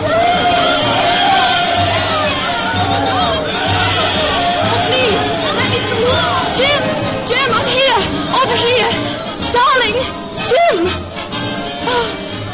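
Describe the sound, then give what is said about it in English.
A dense crowd on a pier, waiting for a regiment to come home, with many voices chattering and calling out at once and occasional whoops and shouts rising above the steady, loud hubbub. “How I got through that crowd, I'll never know.”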